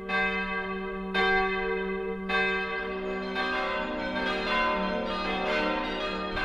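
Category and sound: signal or alarm, church bell ringing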